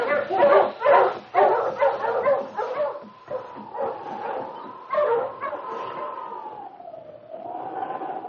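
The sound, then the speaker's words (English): Husky sled dogs, settled for the night and being put back into harness on the tug line, bark and yip in a rapid, overlapping burst, then settle into a long, wavering whine that rises and dips for several seconds. “But they obeyed King and moved to their places on the tug line.”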